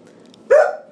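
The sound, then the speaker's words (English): An elderly deaf female dog lets out one short, odd, strained bark, almost hiccup-like and fairly loud, breaking a quiet background and trailing off quickly. “That is a deaf dog's deaf dog accent.”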